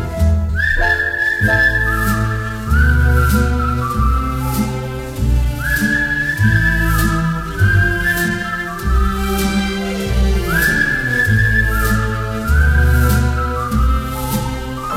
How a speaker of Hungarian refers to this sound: Ha nem tudok aludni éjjel, és nem jön az álom felé, veszem a kalapot, a kaput becsukom, s fütyülve indulok én.